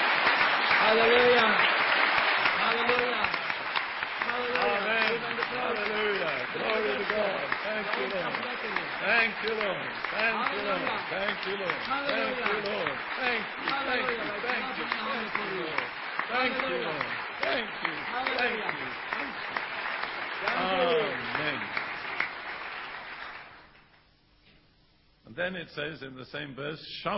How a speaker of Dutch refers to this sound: And one of the ways we respond is by clapping our hands. En een van de manieren waarop we daar reageren is door onze handen te klappen. How about doing that right now? Waarom zullen we dat nu niet meteen doen?